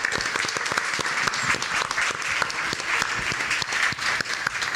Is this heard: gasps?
no